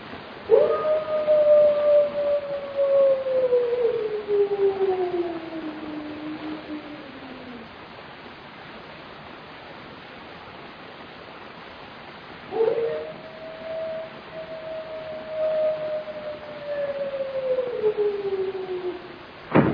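wolf howling

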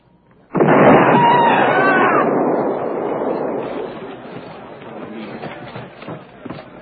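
landmine explosion

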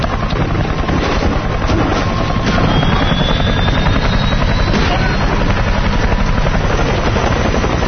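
helicopter rotors

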